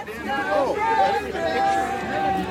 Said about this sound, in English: We got out at the Smithsonian Metro Station and made our way to the Washington Monument. For a cold day in January, it was a decent crowd. There was a lot happening.